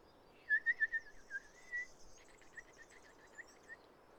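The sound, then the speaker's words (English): Someone whistles an imitation of a warbler's call: a quick run of thin, high chirping notes, then a second rapid trill. It is clear over a soft background hiss. “That's my warbler call.”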